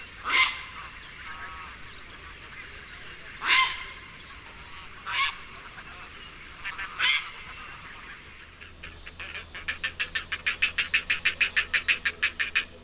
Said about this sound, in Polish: Najczęstszym jest gwałtowne, skrzekliwe krakanie. Jest to głos wydawany przez czaplę podczas lotu lub też w sytuacji, kiedy spłoszony ptak zrywa się do lotu. Głos ten można usłyszeć poza koloniami lęgowymi i w różnych porach roku.